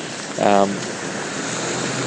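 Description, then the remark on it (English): Moderate rain patters steadily on a jacket hood and jacket, a continuous even hiss throughout, with a brief voiced sound near the start, at a street intersection. “The rain is moderate, it's not heavy at the moment, but you should be able to hear it hitting my hood and my jacket.”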